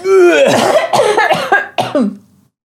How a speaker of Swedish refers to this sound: Oj, vilken krystande härlig hostning. Tar aldrig slut.